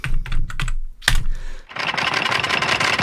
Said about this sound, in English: Well, let's put in Stevie and Mike. I'll type them in for you. There we go. And then I'll type print.